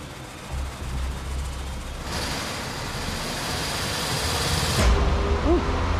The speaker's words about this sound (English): So I've got somebody in the car, they can rev the engine up to a couple thousand RPMs, would be about cruising speed, say.